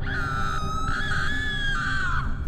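A loud, sustained scream holds one high, strained pitch for over two seconds without a break, cutting off abruptly, with a low rumbling background underneath.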